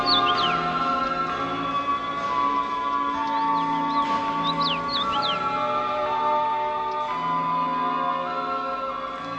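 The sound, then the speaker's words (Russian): The Krok bird caws harshly several times as it swoops, snatching up Alisa and carrying her toward the mountain peaks; its calls rise and sweep over a dense, steady droning background that stays loud throughout with no talking. “Птица Крок подхватила Алису и понесла в сторону горных вершин.”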